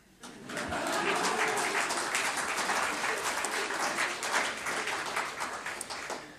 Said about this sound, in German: Applaus.